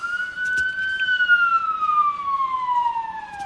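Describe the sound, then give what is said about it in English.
An ambulance siren wails loudly as it passes, its long steady tone easing slowly downward in pitch over a low traffic rumble, with no one talking. “That's an ambulance.”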